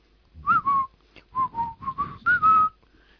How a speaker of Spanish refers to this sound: Cuando te sientas hundido, no seas idiota, frunce los labios y silba. ¡Eso es todo! ¡Fiu!